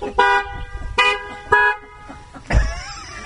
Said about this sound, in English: All right, Lord bless you for gathering here. Honk if you love Jesus.